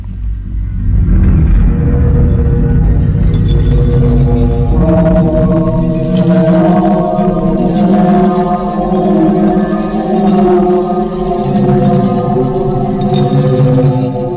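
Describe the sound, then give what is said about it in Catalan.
Church bells ring out together in a dense, sustained peal, several overlapping tones clanging steadily over a low rumbling background, loud throughout with no one speaking. “I efectivament, campanes. Tornem a parlar de campanes.”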